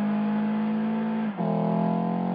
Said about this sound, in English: Now switch to sport mode. It offers quick response and more agility. It also enhances the natural sound of the engine.